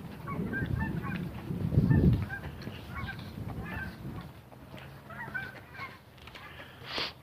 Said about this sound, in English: Comes with a flock of geese.